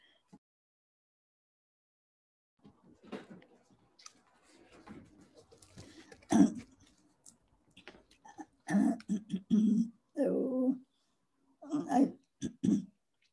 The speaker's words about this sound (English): Sorry, I'm going to cough here a second.